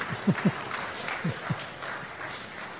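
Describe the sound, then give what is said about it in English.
An audience at a church service applauds in a steady, dense wash of clapping at moderate volume, with a few heavier low thumps scattered through the first half. “You can clap.”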